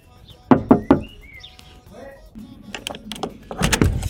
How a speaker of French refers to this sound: Je toque deux fois.